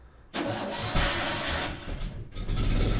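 A car engine cranks and catches abruptly as the car is started to be driven outside, then settles into a steady, loud rumble that swells slightly as it revs, with no voices over it.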